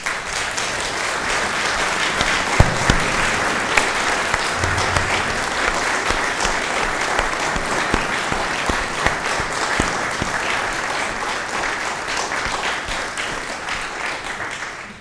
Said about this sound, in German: Beide Chöre waren wunderbar an diesem Weihnachtsmorgen und jetzt ist auch noch mal gut Zeit für einen Applaus.